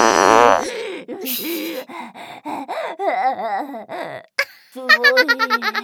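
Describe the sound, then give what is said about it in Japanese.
A voice makes buzzy, drawn-out imitation fart noises up close, followed by strained groans, squeals and giggly vocal bursts, ending in a quick rhythmic run of laughing sounds. “ほら、ブー激臭おなら、ブー。”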